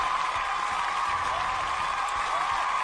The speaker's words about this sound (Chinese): 那么进入到我们的连选之中哈，再次把掌声送给他们二位， 恭喜 恭喜。